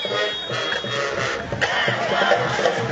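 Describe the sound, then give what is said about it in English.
A large crowd at a Jaguars homecoming football game roars and cheers in a steady, dense wash of voices, with a brief surge of shouting midway and a continuous loud rumble throughout. “Nice crowd on hand here for homecoming for the Jaguars.”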